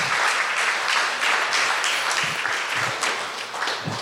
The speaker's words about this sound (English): Yeah, we can clap for that.